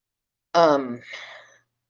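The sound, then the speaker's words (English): A single yawn: a drawn-out voiced groan that sinks in pitch, then trails off into a breathy exhale, lasting about a second with no talking around it. “And I had to yawn.”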